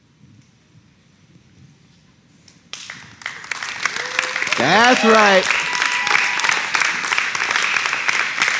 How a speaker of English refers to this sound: That's right. You can clap for them. We love them all.